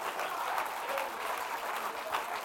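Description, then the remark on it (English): An audience claps during a sermon in a steady, scattered patter, fairly soft and subdued with no cheering, the applause sounding half-hearted and sustained evenly for a couple of seconds. “And some of y'all just clapping real shallow and nonchalant.”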